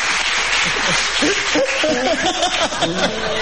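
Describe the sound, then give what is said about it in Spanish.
An audience claps steadily for a few seconds, a dense, continuous wash of applause mixed with scattered shouts, whoops and laughter rising over it. “Me parece que quiero que me aplaudan más.”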